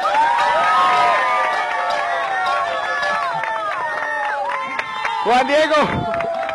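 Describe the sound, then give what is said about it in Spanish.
A crowd cheers and whoops loudly for several seconds to welcome a guest, many voices rising and falling in pitch over a steady wash of clapping, with a few shrill yells near the end. “Así que quiero que reciban con la mejor bulla, el mejor aplauso al tal buscado,”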